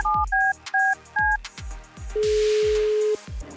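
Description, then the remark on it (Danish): A quick series of touch-tone beeps as a phone number is dialed from the Nova radio show, followed by a steady ringing tone, all over a thumping rhythmic music bed with no talking. “Jeg tænker, vi bare ringer til vedkommende med det samme.”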